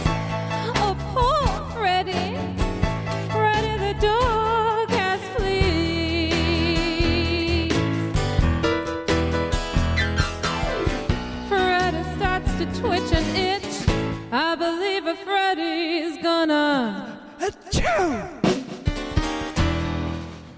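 A song plays loudly for the whole stretch, a sung vocal riding over full, steady instrumental backing, with a brief thinning of the music near the end before it picks back up.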